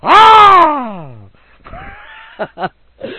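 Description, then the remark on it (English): A loud, blood-curdling screech done by a human voice, a long shriek that starts high and slides downward, followed by a few short gasping vocal bursts. “Then, closed in her white sheet, and like a flash, she jumped from behind the same time, let out a loud, blood-curdling screech. I'll scream.”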